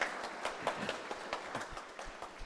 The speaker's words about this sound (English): You get a clap for doing Zippo, boy. How good is that?